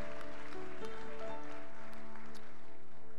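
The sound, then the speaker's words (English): A church audience gives a hand clap of praise, clapping in a dense, steady patter while sustained organ-like tones hold underneath, the applause fairly quiet and continuous throughout. “Will you give him a hand clap of praise for his faithfulness this morning?”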